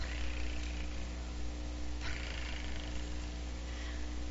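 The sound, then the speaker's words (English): A soft, continuous low rumble of a kitten purring as it rubs against a girl's leg with its back arched and tail up, steady and unbroken for several seconds, fairly quiet, with no voices. “The cat's back was arched, the tail was up, and the kitten went.”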